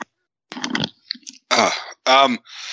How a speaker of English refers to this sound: Hold on, I have to cough.